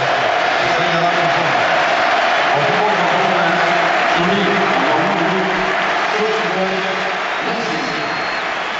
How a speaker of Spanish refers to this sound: Messi aplaudeix el públic aplaudeix a Messi.